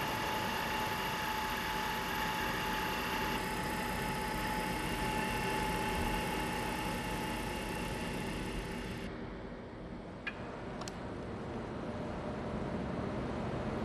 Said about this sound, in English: This machine is very similar to the one that locksmiths use. Their machine copies keys, my machine makes models. It's just like tracing. I'm constantly watching the pattern and the model.